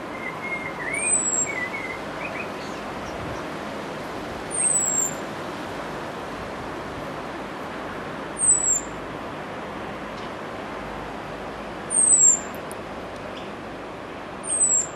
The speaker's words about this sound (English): And sticking to an introduced theme, Ross Rennick sent in this starling from Carnegie, and a blackbird too with a beautiful song.